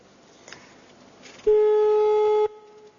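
A telephone ringback tone heard down the line: one loud, steady one-second beep that cuts off abruptly, with faint line hiss before and after and no one picking up.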